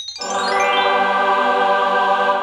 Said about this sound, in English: Oh yeah. That's what we were going to hear, the chimes. The chimes of triumph. The chimes of triumph.